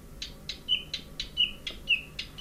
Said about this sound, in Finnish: Ja. Se pitää pientä taukoa. Tämä on tämmöinen rauhanen luhtakerttunen.